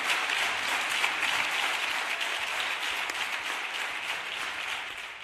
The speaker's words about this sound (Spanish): Bueno, pues sus compañeros del PSOE le han aplaudido durante más de un minuto.